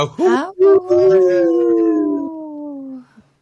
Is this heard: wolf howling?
yes